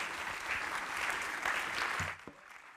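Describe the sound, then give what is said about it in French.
Audience applause, a dense steady patter of many hands clapping for about two seconds, then quickly fading out, with a couple of faint voices as it ends. “On l'applaudit évidemment.”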